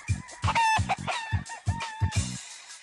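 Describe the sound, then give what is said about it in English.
A single game cock rooster at 103rd Street, Corona Plaza, crows and clucks, its calls layered over a rapid run of short, punchy bursts that pulse steadily for a few seconds, with no voices present. “What I saw was an opportunity to participate in a historical ritual, just having one game cock.”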